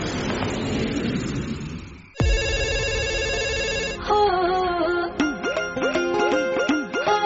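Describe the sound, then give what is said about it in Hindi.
A mobile phone ringtone plays alone after a noisy lead-in, first a sustained buzzy tone, then a bouncy repeating melody of bright beeps, fairly loud. “तेरे बज जत ring tone, बज जत रिंग टोन, पढ़ते ही गेट करे कहते साइलेंट फोन।”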